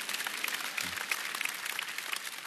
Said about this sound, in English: You can clap for that.